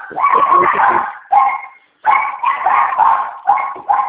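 animal, dogs barking

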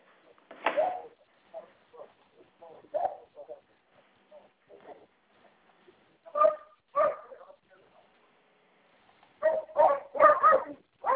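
animal, several dogs barking

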